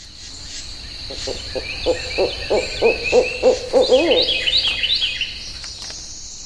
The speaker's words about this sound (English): It's a National Audubon Society sanctuary in southwest Florida. Here's audio taken in May of 1999. You can hear frogs and insects and birds, red-winged blackbirds, cardinals, blue herons, great egrets.